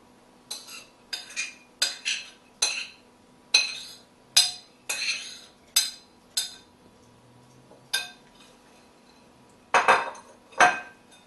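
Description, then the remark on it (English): Potatoes being dropped one by one into a dish: about a dozen sharp clinks and knocks at an uneven pace, ending with two louder clatters, with no one speaking. “So what you want to do now is you want to add all the potatoes into a dish.”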